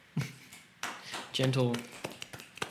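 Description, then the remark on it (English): A few soft, scattered claps, light and uneven rather than a steady round of applause, with a person's voice briefly heard in the middle. “A gentle one. But when you hear the podcast in full, my God, will that be a chorus of applause.”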